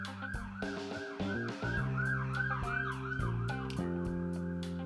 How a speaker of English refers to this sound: Here's another ambulance. Please hold.